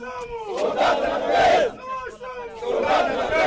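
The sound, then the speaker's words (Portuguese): Forest rangers at a new UN-supported ranger school in Cuando Cubango province, Angola, shout a rising, chanted war cry in unison, loud and sustained, with a brief dip before the crowd's yelling swells again. “Na província de Cuando, Cubango, os soldados da natureza deram seu grito de guerra.”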